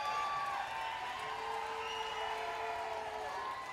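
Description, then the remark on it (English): An audience applauding and cheering for a man on stage, a dense wash of clapping with raised voices and whoops mixed in, steady and fairly loud throughout. “Can we get one more round of applause for Andy Farag up here”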